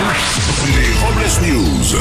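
A fighter jet roars past with a loud, rushing whoosh, its dense noise filling the whole two seconds and shifting pitch as it sweeps by overhead.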